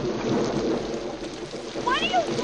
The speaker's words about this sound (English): Here's a scene where you're marching around in the pouring rain with other women from the platoon.